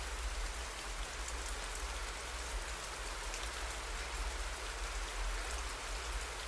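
Steady rain pours down, a dense, even hiss of drops spattering on a surface with a low rumble underneath, continuous and unbroken, with no voices.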